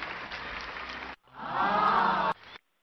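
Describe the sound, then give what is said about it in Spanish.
A burst of dense applause cuts off abruptly, then swells back with a crowd cheering and whooping over the clapping before stopping suddenly, like a canned sound effect, played to greet Hall of Fame figure Tony Oliva on the line. “tenemos aplausos. Por favor, bastantes aplausos.”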